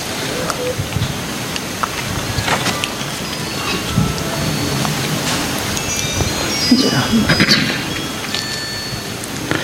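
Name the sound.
electric fan running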